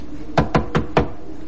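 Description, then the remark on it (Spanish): Four sharp knocks rap on an apartment door in the hallway of an apartment building, in a quick, slightly uneven rhythm, fairly loud, with no voices around them. “Él golpea la puerta.”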